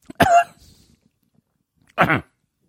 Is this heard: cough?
yes